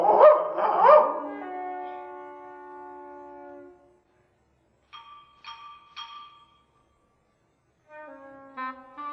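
A dog gives two quick barks that stretch into a drawn-out whining tone, followed by a pause and then softer, high tonal notes with no one talking.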